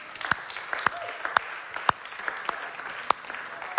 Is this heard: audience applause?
yes